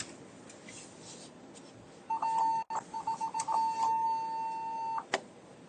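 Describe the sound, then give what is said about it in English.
A car's impact warning beeps loudly in a parent pickup line as another parent cuts off everybody: a steady electronic tone, then a burst of quick rapid beeps, then a long sustained tone before it cuts off. There is no talking. “And it is causing a commotion, as you heard with the beeping here on my car with the impact warning.”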